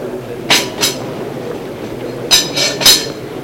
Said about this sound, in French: Il s'approche de lui, un bol métal et une cuillère et un bout de pain. Il dépose sur la table.